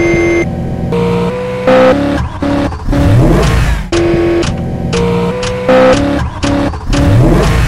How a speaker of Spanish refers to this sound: Trip Viajes te lleva 71 vueltas, 24 motores rugiendo.